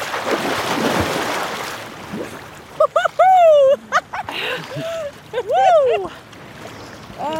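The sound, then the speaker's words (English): A loud rush of splashing water fills the opening seconds as people walk into freezing ocean water for a cold plunge, then fades as several people let out sharp, rising shrieks and yelps. “together, sometimes as a New Year's Day tradition, and jump into the freezing ocean.”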